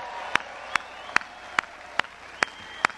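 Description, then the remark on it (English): Steady, rhythmic clapping, a round of applause for veterans: seven sharp, crisp claps evenly spaced at a brisk pace, with a faint sustained tone humming underneath and no one talking. “All of you that are veterans, raise your hands so we can give you a round of applause and say thank you for what you've done.”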